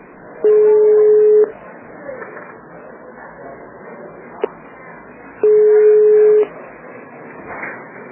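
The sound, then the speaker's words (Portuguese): Two steady electronic telephone keypad tones, each about a second long and several seconds apart, sound clearly over a low murmuring background, with a faint click between them, as a caller selects an option in the Biguanet Informática phone menu. “Para vendas, digite 1. Para assistência técnica, digite 2 para notebooks, 3 para computadores e impressoras, 4 para tablets e celulares.”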